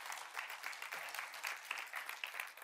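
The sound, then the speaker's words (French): An audience applauding God together, a dense, steady wash of many hands clapping, sustained evenly throughout with no voices over it. “Est-ce qu'on peut applaudir notre Dieu qui nous renouvelle, qui nous donne tout ce qu'on a besoin?”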